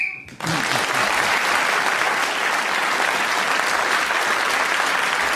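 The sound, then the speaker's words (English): A short, sharp referee's whistle blast sounds once at the very start, ending Clement Freud's turn speaking on the subject, quickly swallowed by loud, sustained applause from a studio audience that carries on steadily to the end. “And he got an extra point for speaking as the whistle went”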